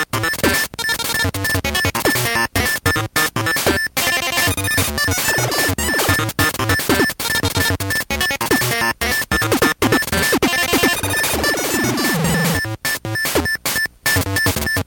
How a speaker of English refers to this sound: The music is very discordant. It's strident beeping sounds. It's hard to listen to, and that's kind of the theme throughout this entire thing.